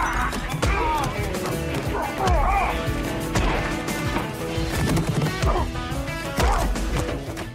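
A rapid string of loud, meaty movie-style punch impacts, one thwack after another, layered over a busy, dense background with shouts and grunts mixed in, like a film fight scene.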